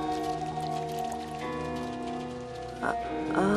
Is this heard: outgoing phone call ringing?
no